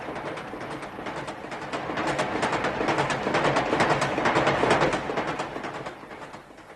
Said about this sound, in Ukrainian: Це стрічний поїзд.